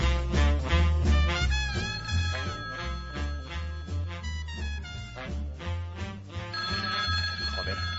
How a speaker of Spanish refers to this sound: Encima suena el teléfono, macho.